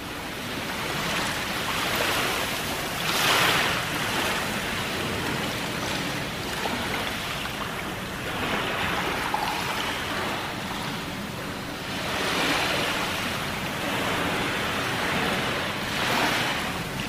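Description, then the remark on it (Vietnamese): Ocean waves surge and wash in a steady, continuous roar, swelling louder every few seconds as breakers roll in, with a breezy hiss over the top and no voices. “Những cành lá phía trên lấp loáng trên mặt biển khơi, với những ai không phải là Ason thì đó chỉ là những làn sóng xôn xao lấp loáng.”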